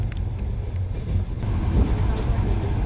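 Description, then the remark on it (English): Steady low rumble of an overnight train from Odessa to Kiev rolling along the tracks at about 6:30 a.m., heard from inside the train, with a few sharp clicks near the start and a murmur of voices underneath. “and just had a night of rest here on the train, clicking along the tracks all night.”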